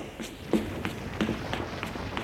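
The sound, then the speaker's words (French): Quick, evenly spaced footsteps, about seven of them in two seconds, like someone hurrying or running after a door is broken down, each step a soft thud with no voices. “Des pas, des cris.”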